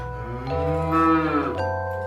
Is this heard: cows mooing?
yes